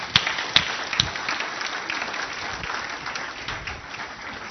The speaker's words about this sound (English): let's give them a round of applause for coming up here.